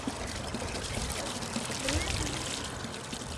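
A steady stream of spring water pours from a single pipe coming out of a mountain in West Virginia, near Route 119, splashing continuously with an even, rushing hiss that holds constant throughout.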